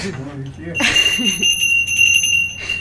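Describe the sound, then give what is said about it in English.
A voice talks briefly, then a bell is struck once and rings out with a bright, sustained, shimmering tone that lingers clearly to the end. “Ring the bell”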